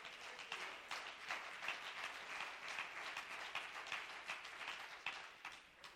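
An audience claps their hands together in a steady, dense burst of applause that carries on evenly for several seconds, fairly loud, with no talking over it.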